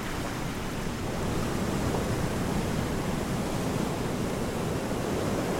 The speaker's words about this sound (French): Alors regarde-moi ça, c'est des vagues de... Je sais pas, de 2-3 mètres de haut, hein, au moins. Là derrière, il y en a une immense qui se prépare aussi. Qui fait 1 km de long. Oh là là, 3 km de long, la même vague.